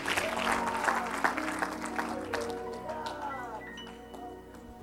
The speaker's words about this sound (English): And give him a hand clap of praise today as you're seated in Jesus' name.